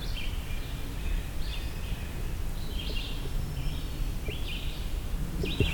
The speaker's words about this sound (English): Oh, dark-eyed Junco. That rattle call of dark-eyed Junco's